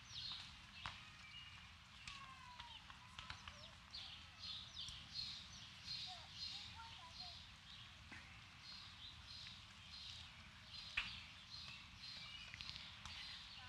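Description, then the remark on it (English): Birds sing and chirp continuously outdoors in summer, layered high twittering calls over the steady low rushing of waterfalls, with occasional soft clicks and taps. No one speaks. “You can begin to notice the hum of summer around us, the birds singing, the sun in the shade on our bodies, the sound of the falls, keep breathing in and out.”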